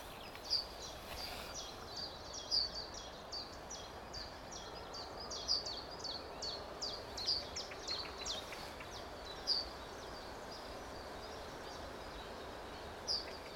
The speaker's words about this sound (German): Hier ruft wieder der Zilpzelp. Oben muss irgendwo eine Goldammer sitzen, die das gelegentlich hier zieht.